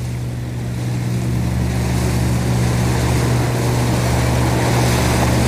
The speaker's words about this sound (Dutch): We steken over, de motoren zijn lekker aan het loeien. Ik ben hem eens aan het laten draaien, want ik vind hem wel leuk. Even 2500 toeren, gaan met die banaan. En we hebben een stroompje mee, dus dan zitten we aan 19 km per uur.